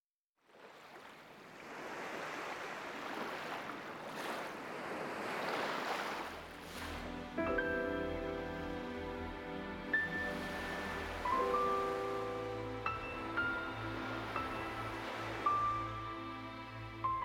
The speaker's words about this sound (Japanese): 私はショッピングモールから少し離れた臨海公園を訪れていた。